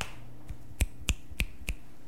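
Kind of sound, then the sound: crowd, weak applause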